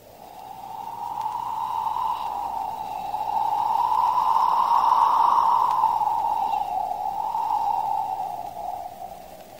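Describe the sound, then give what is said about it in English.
A cold breeze coming in off the ocean, a steady breathy whoosh with a faint whistling tone that swells in the middle and eases off over about ten seconds, apparently made by a voice imitating wind. No talking. “That were the breeze.”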